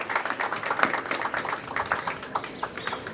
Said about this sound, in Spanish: Y con el respeto de las autoridades, si me lo permiten, ofrecer un fuerte aplauso a todos nuestros hombres de la Policía Nacional que sacrifican su vida para traer tranquilidad y paz a Colombia.